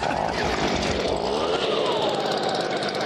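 A leaf blower roars loudly and steadily up close while a pulse jet engine sputters and buzzes as it tries to start, a harsh continuous mechanical drone with a rising, rattling pitch.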